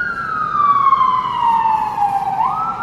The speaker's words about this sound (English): siren go by. That's okay. That's the New York soundtrack, right? It is the New York soundtrack.